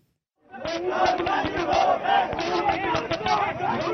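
A crowd of students chants and shouts together in a loud, continuous roar on the Hyderabad University campus at exactly midnight, marching with candles held up like torches, with rhythmic bursts and a steady collective din after a brief moment of silence at the start.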